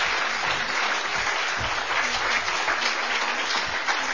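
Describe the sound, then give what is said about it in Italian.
An audience applauds a speaker steadily, a dense wash of many hands clapping at a constant, fairly loud level with no voices standing out for the whole stretch. “Lo ringrazio tantissimo, gli dedichiamo un grande applauso.”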